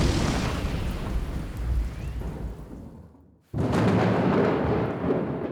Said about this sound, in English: Suddenly, there was a loud crack, and lightning hit the ground in front of me.